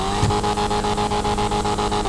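The engine of a retro sports classic car, an Invetra Koket D1 styled like a retro Corvette, rumbles deep and loud, its low throbbing note pulsing steadily in a rapid, even rhythm with no talking.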